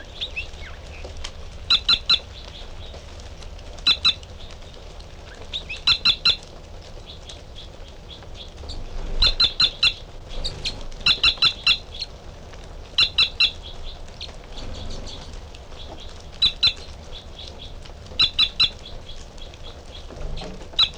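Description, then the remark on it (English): Two birds call back and forth, the female giving short, sharp high chirps in quick clusters while the male sings fainter song phrases beneath, repeating every couple of seconds over a low background hum. “is the female, and the male giving song phrases behind.”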